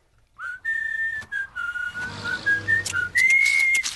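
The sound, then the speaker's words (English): A clear, loud whistled melody of sustained tones with small pitch slides, running nearly continuously for several seconds over faint background music, at the start of the theme song of the TV show Fanboy and Chum Chum. “Starts is with whistling.”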